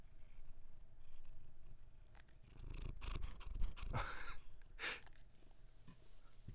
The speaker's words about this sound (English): Oh, you can hear the purring a little bit.